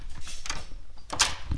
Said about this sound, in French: on ouvre la porte.